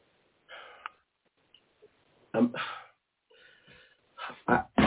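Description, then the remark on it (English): A book gets knocked off and falls, landing with a few dull thumps and a rustling clatter, amid soft breathy noises and no speech. “My baby dropped. Hold on. Oh, sorry, baby. Oh, my baby. And my book is my baby.”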